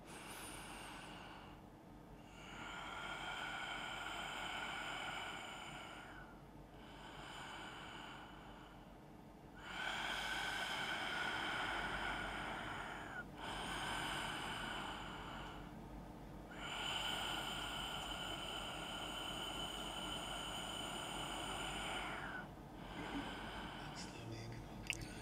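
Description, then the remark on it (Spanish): Slow, deep breathing during a guided breathing exercise: three long, airy exhalations alternate with quieter inhalations in a steady, unhurried rhythm, with no talking. “Tres largas exhalaciones.”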